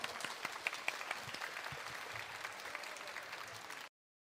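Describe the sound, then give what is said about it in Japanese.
A crowd applauds steadily for about four seconds, a dense patter of many hands clapping at once, even in loudness, then it cuts off abruptly. The audience is at a public recording of the radio show Inazuma Rock Radio, applauding a guest after an interview. “皆さん拍手を。”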